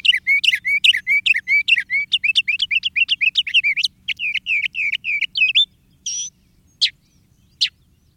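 mockingbird song

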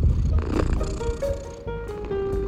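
small cat purring

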